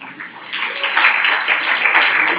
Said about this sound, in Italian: Applauso, grazie.